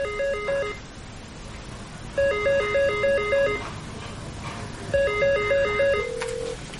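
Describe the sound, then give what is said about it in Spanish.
In a drama scene, an electronic telephone rings as Khadija calls Afid from the residence, three warbling bursts separated by short pauses, each a rapid alternation of two high tones, over a soft background hiss, ending with a brief steady beep. “En la residencia, Khadija telefonea.”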